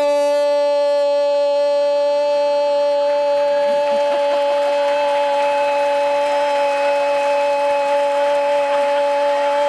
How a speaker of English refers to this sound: What was the name of that game? It sounded like an air raid siren.